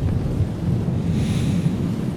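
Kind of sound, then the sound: nature, thunder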